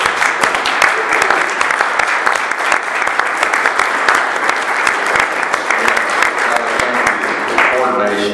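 An audience breaks into sustained applause, a dense, steady patter of many hands clapping for several seconds before it begins to thin out.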